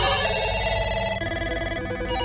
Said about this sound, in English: The noise was deafening. The only stillness my ears got was the short pause between the ringing of 15 calls acting simultaneously.